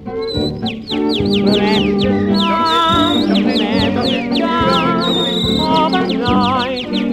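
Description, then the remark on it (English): A person whistles an impersonation of a canary's song, a fast, continuous stream of high chirps and sweeping trills, loud, with no talking, performed for people waiting for theatre doors to open. “Ladies and gentlemen, while you are waiting for the doors to open, I'll have much pleasure in entertaining you with a few impersonations of well-known British birds. First, the canary.”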